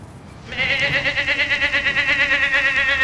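A goat in the Bayview, in the San Francisco Bay Area, lets out one long, loud bleat starting about half a second in, wavering and quavering steadily for a few seconds, over quiet outdoor background noise.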